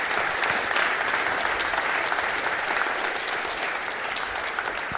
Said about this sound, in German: So, jetzt cool. Dann bitte ich einmal um einen herzlichen Applaus für ….